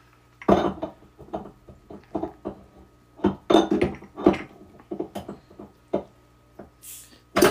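A glass Topo Chico sparkling water bottle is fumbled against the built-in metal opener on the side of a fridge: a run of uneven clinks and knocks, then a brief high fizzing hiss as the cap pops off. No one speaks.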